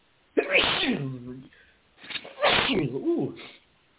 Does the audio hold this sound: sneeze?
yes